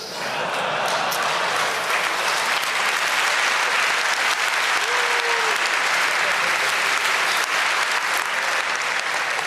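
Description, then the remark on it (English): Steady, dense applause from a large crowd fills the whole stretch, loud and continuous with a faint whistle or cheer rising briefly midway, no speech on top. “I'm hoping that you are not cheering for him, because...”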